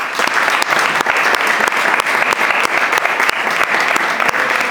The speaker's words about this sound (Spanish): Por lo tanto, le pido en nombre de todos nosotros un aplauso para Sisto Trujillo.